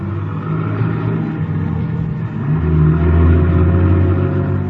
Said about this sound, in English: Then somebody enters the garage, eases into the car, and we start up. I get a look at the back of the driver's head.